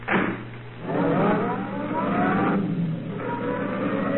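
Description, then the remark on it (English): A roadster's engine revs up and pulls away, its pitch climbing steadily over a low, constant rumble. The sound is fairly loud, with no voices. “And there in the roadster was Marie, leaning toward him a little to hold the door open and smiling at him.”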